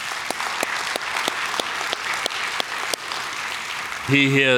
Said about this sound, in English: And let's give your pastor a round of applause, shall we?